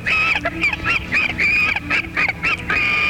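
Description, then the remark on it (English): A person sings Jingle Bells in nasal, high-pitched pig-like squeals as an entry in a sing-like-a-pig Christmas contest, with a string of short honking notes and a few longer held ones in a bouncy, steady rhythm. “Hello, sing along, sing like a pig Christmas contest.”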